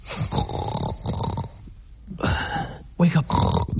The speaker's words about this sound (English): Wake up. Come on, wake up. Wake up. Oh, shut up. Stop snoring, for God's sake. You're scaring the pigs.